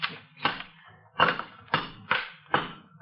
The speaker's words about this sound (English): Whatever it is, it's behind these bricks, Sarge. Here, take this crowbar and knock that wall down.